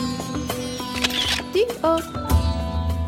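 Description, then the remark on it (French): A camera shutter clicks several times, each release a short, sharp snap at uneven intervals, heard over a busy background with a steady hum and some faint voice-like sounds. “déclencheur.”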